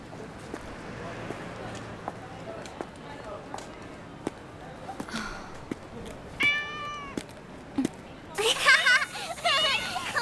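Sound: kitten meowing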